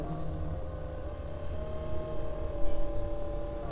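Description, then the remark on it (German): A steady, droning rumble of an airplane passing overhead, low and continuous with a faint tonal hum, swelling slightly louder near the end. No one speaks. “Ein Flugzeug am Himmel.”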